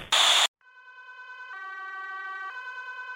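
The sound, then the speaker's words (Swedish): A brief burst of harsh noise, then an ambulance siren alternating between two tones in a steady hi-lo pattern, loud, with no voices; the ambulance is taking Michael Jackson to Ronald Reagan UCLA Medical Center. “Sjukvårdare anländer och de för in Michael i en ambulans som tar honom till Ronald Reagan UCLA Medical Center.”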